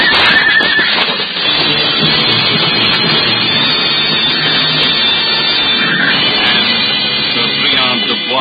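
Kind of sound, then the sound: animal, horses galloping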